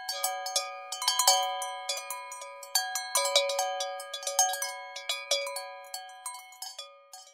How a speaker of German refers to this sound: Die Kühe in den Bergen tragen alle eine Glocke um den Hals. Bei jeder Bewegung bimmeln sie.